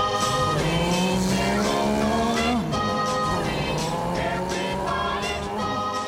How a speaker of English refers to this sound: I've got a car. Ooga! Vroom, vroom.